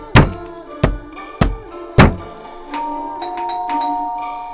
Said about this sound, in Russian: Девочка проснулась от странных звуков. В дверь кто-то громко и настойчиво стучался.